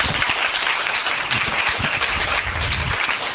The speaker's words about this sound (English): So thank you all for joining the chamber. Let's give them a round of applause for joining us.